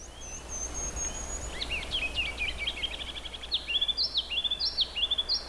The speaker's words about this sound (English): So, that's a ruby-crowned kinglet.